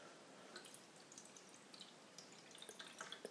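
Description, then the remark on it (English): Water pours steadily into a measuring jug that comes with an X5, topping up water already in it in a kitchen: a soft continuous trickle with small bright splashes and drips scattered through it, fairly quiet, with no voices. “So I've got a measuring jug, which comes with the X5. I've already put some water in it, but I'm going to top it up a little bit more.”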